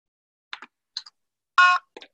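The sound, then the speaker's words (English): A phone disinfection box, switched off by pressing and holding its button, gives one short, bright electronic beep as it switches off, with a few soft clicks before and after it. No one speaks. “Doesn't say anything, but it does beep and it is off.”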